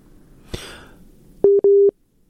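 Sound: busy tone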